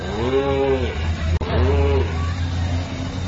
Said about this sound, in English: walking on the banks of the river Ganges, and he happened to see some beautiful cows playing together. They were jumping up and down, and their tails were raised, and they were mooing.